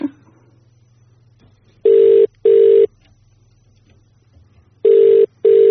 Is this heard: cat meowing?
no